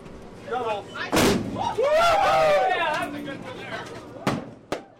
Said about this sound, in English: We got the boat parade going here, and we got three pretty well-lit boats out here. We got all kinds of fireworks and stuff going off tonight.